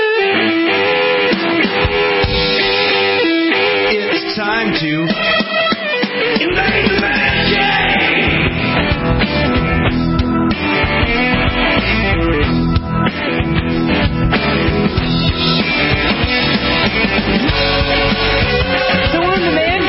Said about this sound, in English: People in the crowd screaming that they are in New Zealand and Australia for the World Cup, which is happening right now.